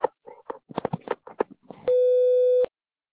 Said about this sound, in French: Pour déposer un message, parlez après le bip, puis validez en appuyant sur dièse ou raccrochez.